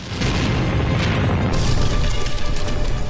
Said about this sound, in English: The deck chair explodes.